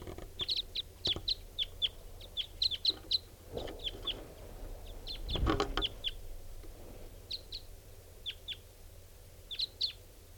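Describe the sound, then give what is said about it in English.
A flock of wild birds, including some type 5s, coming in gives short, sharp, high-pitched call notes in irregular clusters throughout, with a brief low rumbling thump partway through. “All birds are coming in, including some type 5s.”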